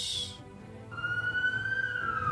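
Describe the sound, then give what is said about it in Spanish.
A police siren wails with a slow rising and falling tone over a low rumble of traffic and city noise in Washington, D.C., during the third night of protests near the White House. The sound is steady, with no talking. “El ruido de la sirena se apodera de Washington en una jornada que marca la tercera noche de protestas en las inmediaciones de la Casa Blanca.”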